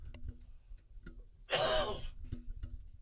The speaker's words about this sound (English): Excuse me, I'm still fighting that little bit of a cough, but that was not the worst of it.